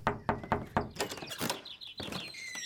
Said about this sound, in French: Mais voilà son père qui ouvre la porte de sa chambre.